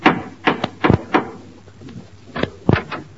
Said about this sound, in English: Gracie has rushed over to Herbert Marshall's house to inform him of his romantic future. She knocks at the door.